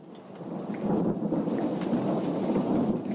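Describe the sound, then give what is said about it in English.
A steady downpour of rain with a deep, rolling rumble of thunder underneath as a thunderstorm brings welcome rain to parched farmland, loud and continuous throughout, with no voices. “A thunderstorm unleashes welcome rain on Ames's parched land.”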